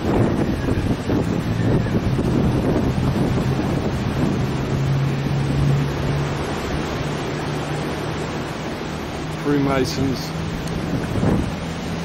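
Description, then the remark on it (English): Strong, gusty wind roars steadily into the microphone while sea waves churn and crash at Boulogne-sur-Mer in bad weather, a loud, unbroken stormy wash, with a person speaking briefly beneath it. “I don't want my camera to get all wet, you know, so they're from the other side in Boulogne-sur-Mer. Bad weather.”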